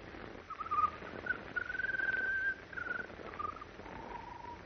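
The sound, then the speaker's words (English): A bird sings an odd, whistling song of wavering trilled phrases, one sustained stretch in the middle, fairly faint against a soft background hiss, with no talking. “When the bird started to sing, her pulse became much stronger.”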